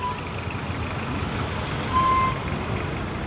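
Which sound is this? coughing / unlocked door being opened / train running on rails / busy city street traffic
busy city street traffic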